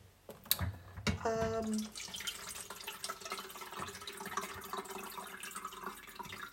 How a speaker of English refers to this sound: Excuse me while I fill up this kettle.